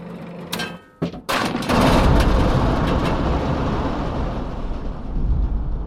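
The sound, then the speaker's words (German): A theatre thunder box, used for the lightning-strike thunderstorm scene in the play Brandner Kaspar, starts with a few sharp cracks and clatters, then swells into a loud, sustained low rumble that rolls on for several seconds without fading. “Ja, es gab so eine Gewitterszene und da ist halt Blitzeinschlag und dann entsprechend der Donnerkasten.”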